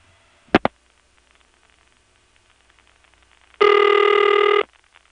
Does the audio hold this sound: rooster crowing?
no